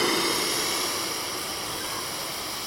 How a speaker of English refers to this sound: I noticed he was holding hats over a machine which burst a jet of steam.